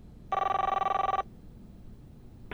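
A single burst of telephone ringing as Madame Michel calls the police on her phone, a trilling electronic bell lasting about a second, followed by quiet and a brief clunk at the very end.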